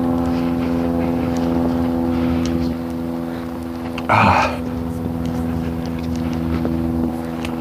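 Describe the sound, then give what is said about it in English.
A propeller airplane drones steadily overhead beneath an overcast cloud deck, not flying particularly low, its engine hum holding a constant pitch throughout, with a brief louder rushing burst partway through. “But it's, yeah, it's definitely up there as a plane going by. It's not particularly low in the sky.”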